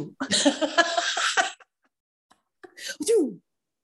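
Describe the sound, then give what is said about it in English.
A person lets out a rough, breathy burst of coughing, a short pause, then another strained cough ending in a voiced groan, sounding deliberately acted out. “Coughing.”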